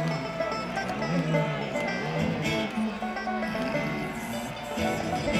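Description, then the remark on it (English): Loud, steady engine noise fills the whole stretch, a dense mechanical rumble with shifting tones as the engines rev up and ease off, continuous with no talking. “Ready for a big pick, something to just rile you up, just the engines.”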